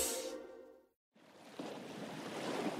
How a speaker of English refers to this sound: There's nothing like being near the ocean. The cool breeze, the salty air, the annoying seagulls. And of course, the soothing sound of crashing waves.